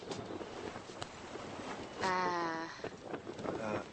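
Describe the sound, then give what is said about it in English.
A boat being steered moves steadily through water, a constant rushing wash with a low rumble underneath, while a voice briefly calls out twice over the noise. “I'm steering the boat.”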